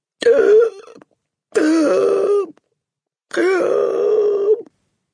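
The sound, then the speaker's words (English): A voice produces three strained, strangled gasps, as the Trunchbull's mouth opens and shuts, each a choked, groaning burst lasting about a second, separated by short silences, fairly loud. “The woman's face had turned white as snow, and her mouth was opening and shutting like a halibut out of water and giving out a series of strangled gasps.”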